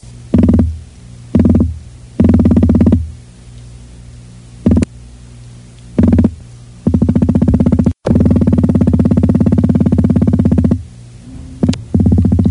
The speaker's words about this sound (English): And what was that thumping noise? That was the recording of a fish, if you can believe it. And specifically, the Atlantic croaker fish. Atlantic croaker. A recording made by scientists from the University of Rhode Island from 1962.